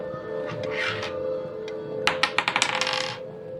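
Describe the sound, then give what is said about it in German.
A ten-sided die is rolled, clattering across a hard surface in a quick burst of sharp clicks that bounce and settle within about a second, landing on 8, over a steady low background hum. “Würfel mal einen D10, bitte.”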